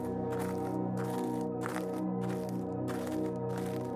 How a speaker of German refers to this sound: Komm nur, wir wollen es uns aus der Nähe anschauen. Mit knirschenden Schritten nähern wir uns der verlassenen Skulptur.